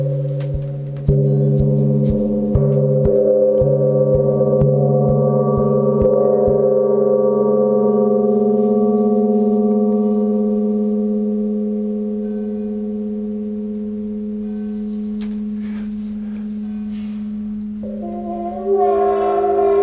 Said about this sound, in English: Strange sounds. Yeah, that's very good. So that was the moon gong.